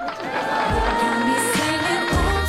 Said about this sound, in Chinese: 掌声